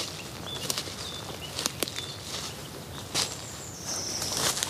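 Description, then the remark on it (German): Soft, irregular footsteps crunch and rustle through leafy forest undergrowth, with brief crackling bursts, while faint bird chirps drift in the background. No one speaks. “Können wir ja mal kurz ein paar Schritte ins Unterholz gehen.”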